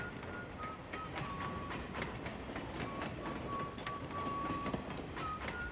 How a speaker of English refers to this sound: And that train that went by was kind of a happy accident. That was total serendipity. Just happened to be there.